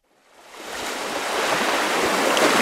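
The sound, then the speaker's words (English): Steady ocean surf roars, mixed with gusting wind, on top of an Arctic ocean bluff where archaeologists are doing an emergency excavation, fading in from silence and building to a full, continuous wash of noise with no voices. “Up on top of an ocean bluff, a team of archaeologists is trying to pull off an emergency excavation.”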